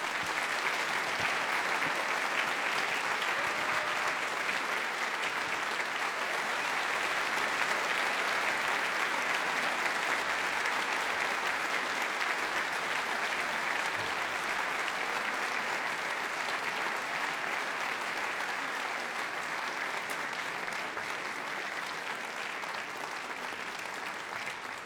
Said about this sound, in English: Anyway, and the band, would you please give this band a wonderful round of applause?